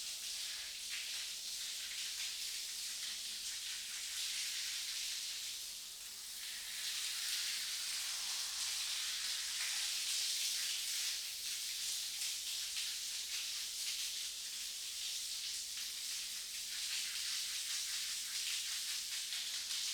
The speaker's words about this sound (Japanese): そこ座って、シャワーかけてあげる。